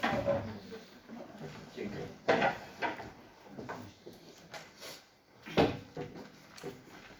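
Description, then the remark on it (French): Wooden scraping and creaking noises, with two sharper scrapes standing out among smaller shuffles and knocks, as someone's chair is shifted around. Faint voices murmur underneath. “Non, mais c'est sa chaise.”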